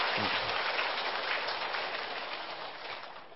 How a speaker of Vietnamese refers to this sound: Cho tràng pháo tay cảm ơn cái nhóm cao nhất đó nữa.